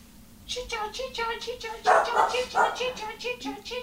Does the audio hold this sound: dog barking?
yes